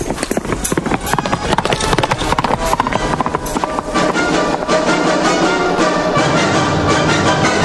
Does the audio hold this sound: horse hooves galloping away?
yes